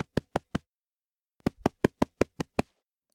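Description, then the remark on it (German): A mother rabbit thumps her hind legs on the ground: four quick, sharp thuds, a short pause, then a faster run of seven evenly spaced thumps, fairly loud with no voices. “Ja, als die Mama uns gesehen hat, hat sie schnell mit ihren Hinterbeinen auf den Boden geklopft.”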